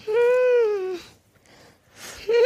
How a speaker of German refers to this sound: Hörst du die ganze Zeit den Hund fiepen? Übrigens, der große Dalmatinerhund steht hier und macht die ganze Zeit...